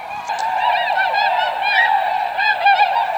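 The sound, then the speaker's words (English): Tundra swan calls, the call a swan shot and crippled on the water utters as it tries to rejoin its fellows in the sky: a steady run of loud, nasal, honking whoops that overlap one another without pause, their wavering pitch rising and falling, with no voices. “it utters this call as it tries in vain to rejoin its fellows in the sky.”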